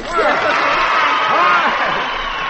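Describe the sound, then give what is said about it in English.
An audience yells a cheer together after a contestant wins 10 silver Sheffield dollars. It is a loud, dense wall of overlapping voices that holds steady for a couple of seconds before easing slightly at the end. “Pay her off, and now you yell cheers.”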